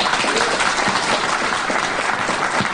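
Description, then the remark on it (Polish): Steady audience applause for a team's leader at an evening event, a dense wash of many hands clapping at a loud, even level for a few seconds, with no voices standing out. “więc my się tutaj wszyscy świetnie odnajdujemy i brawa dla Pani Eli.”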